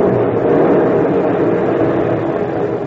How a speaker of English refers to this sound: Hey, look, a plane.